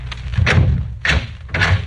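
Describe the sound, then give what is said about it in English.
Bugs Moran opens a door at the end of a long hotel corridor, with three heavy wooden thuds and clunks in quick succession, fairly loud against a low background rumble, and no voices. “Then, on reaching the end of the corridor, he stopped and opened the door.”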